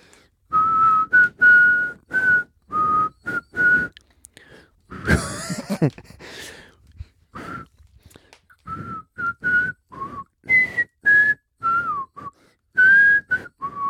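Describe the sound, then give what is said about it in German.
A person whistles a theme tune in a string of short, clear notes that rise and fall, with a brief breathy, noisy pause partway through before the melody resumes. “Ich pfeife mal nochmal.”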